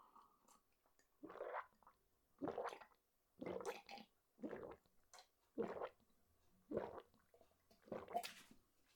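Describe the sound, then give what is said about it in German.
An animal laps stale water from a coffee cup, with about eight wet, slurping bursts at a steady, unhurried rhythm and short quiet gaps between them, with no talking. “Ja, da hat aber jemand Durst.”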